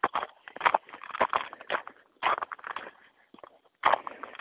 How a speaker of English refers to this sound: There's a little bit of ice underneath this snow. That you can hear it crunching, I'm sure. It's also slick as hell.